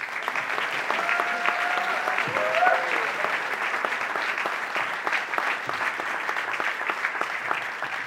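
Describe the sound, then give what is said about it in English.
Sustained audience applause at an evening event as guests, including Lecrae, are welcomed up to the stage: a dense wash of clapping that stays steady and fairly loud for the full eight seconds, with a few brief whistles or cheers rising above it early on. “Felt like y'all should clap again.”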